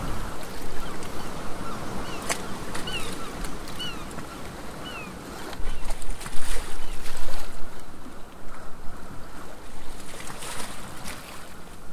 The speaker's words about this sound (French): Ouais, j'ai la flemme de mettre le moteur, donc on va essayer de faire une petite arrivée à la voile. Donc on arrive dans le port là, et puis on va essayer de prendre le coffre donc notre bouée là, d'amarrage à la voile.